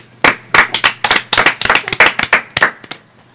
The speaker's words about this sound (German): Ja. Ein kleiner Applaus.